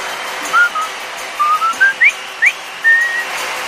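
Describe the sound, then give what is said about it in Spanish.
A whistled military march melody from the film The Bridge on the River Kwai, with a quick series of clear, mid-high notes in a bouncy rhythm and a few upward slides between pitches. It is loud and alone, with no talking. “¿Le suena? El puente sobre el río Kwai.”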